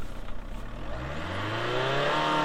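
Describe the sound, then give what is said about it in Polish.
A diesel car engine idles after being started, then is revved up to see whether it smokes, its pitch climbing steadily into a loud, sustained roar with no talking over it. “To ja dodam gazu może?”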